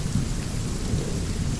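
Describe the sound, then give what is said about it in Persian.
Heavy rain pours down steadily with a deep, continuous rumble of thunder underneath, a dense, even roar that stays loud throughout without any voices. “بارون گرفتی بریم تو.”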